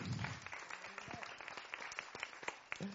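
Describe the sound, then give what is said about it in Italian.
An audience at a film presentation applauds a guest from the film company Fandango, seated in the front row, steadily for a few seconds, a dense patter of many hands clapping at once, with a few voices faintly audible underneath. “Facciamo un applauso anche a lui.”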